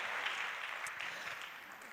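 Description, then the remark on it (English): A small group applauds steadily for a couple of seconds for both players after a fishing game, the dense patter of clapping holding even throughout at a modest level, with no voices. “Can we give them both a round of applause?”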